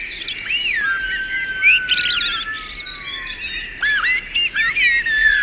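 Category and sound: bird, blackbirds singing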